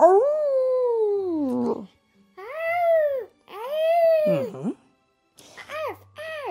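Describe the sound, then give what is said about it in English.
Dogs call out in a series of drawn-out, wavering howl-like barks, then a burst of quick, high yips near the end, loud with brief pauses between calls. “And the barks echoed across the countryside to the Dalmatian plantation, where Sleepy Pongo opened his eyes.”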